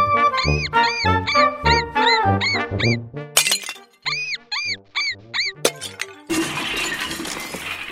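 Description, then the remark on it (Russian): High squeaky chirps repeat in quick bursts, broken by a couple of sharp smashing knocks, then a sustained crunching crash as a painted plaster ham is beaten with tongs and a shovel in the middle of a floor and breaks apart. “Он положил ветчину на середину пола и стал бить ее щипцами и совком. Бум-бум, стук-стук!”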